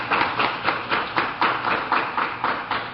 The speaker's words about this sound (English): Let's give a round of applause for the whole panel.